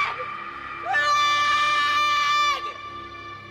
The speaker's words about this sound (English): She turns around and screams into the darkness below.